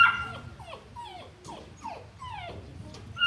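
A St. Bernard dog whimpers in a steady series of short, high, falling whines, about seven in quick succession, over a low background rumble.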